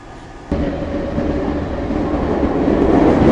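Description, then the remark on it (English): A London Underground Circle Line train, running via Tower Hill and Liverpool Street, rumbles along, its low, steady roar starting abruptly and building gradually louder as the carriage runs on, with dense rattling noise and no voices. “This is a Circle Line train via Tower Hill and Liverpool Street.”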